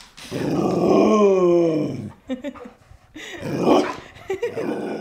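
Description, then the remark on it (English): A 90-pound Border Collie Great Pyrenees mix dog grunts and groans, one long drawn-out rumbling moan followed by a few shorter throaty grunts, fairly loud with no one talking. “a 90-pound Border Collie Great Pyrenees mix”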